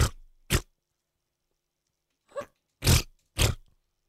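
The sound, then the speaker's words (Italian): Five short, raspy fart-like blasts, a person imitating armpit farts, come in an uneven sequence with a long pause in the middle. The final two are the loudest and longest, with no talking. “Mi fai una scurreggia con l'ascella, per favore?”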